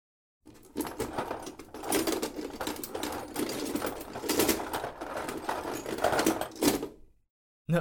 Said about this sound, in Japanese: 治療に入ろうと思います。ドリルで削っていこうと思うんですが、よろしいですか？